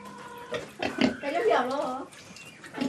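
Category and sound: animal, pigs grunting and oinking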